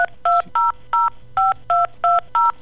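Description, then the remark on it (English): A rapid series of eight touch-tone telephone beeps, each a short steady dual-pitched tone separated by brief gaps, heard clearly with a faint background hum. “get him on the phone.”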